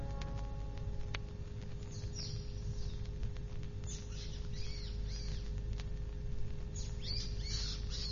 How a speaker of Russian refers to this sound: Птичка, почему ты так кричишь? Что-нибудь случилось с птенцами? Да не щебечи ты так, я ничего не могу понять.